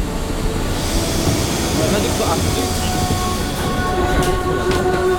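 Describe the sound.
A metro train rumbles steadily through an underground metro station in Pyongyang, its low, dense roar filling the space with squealing metallic tones, while indistinct voices murmur underneath.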